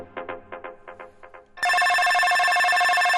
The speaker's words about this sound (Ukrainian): Телефон у Монтальбано задзвенчав, коли ще не було навіть 7 ранку.